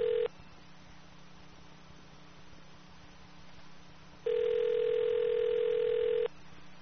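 A steady electronic telephone dial tone sounds briefly at the start, then returns as a clear two-second continuous tone over a faint, constant line hiss as someone picks up the phone to dial. No one speaks.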